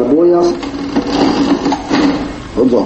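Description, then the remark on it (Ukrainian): An antique mechanical cash register clatters and clicks through its workings in a shop selling colonial goods such as coffee, tea and spices in Latvia, a busy run of rattling, ratcheting strokes, with a voice faintly present underneath. “Усе це можна купити, старовинний касовий апарат справно працює, прошу.”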